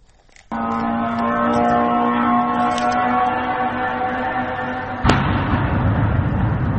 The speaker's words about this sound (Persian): با صدای زوزه موتور و انفجار دست کم 6 پهپاد انتحاری ساخت ایران، اهالی شهر بیلوتسرک و در 100 کیلومتری جنوب کیف شب پر استرابی سپری کردند.